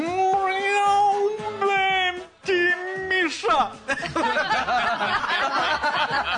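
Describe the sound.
A person imitates a drunk tomcat with two long, drawn-out, wobbly meows that sound slurred and tipsy, loud, followed by a burst of laughter and chatter.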